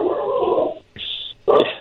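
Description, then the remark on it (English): A dog gives three excited barks and yips outdoors: a drawn-out first call, then a short sharp one and a final burst, loud, with no other sounds around them. “I'm not sure what kind of dog you have, but he sounds happy out there.”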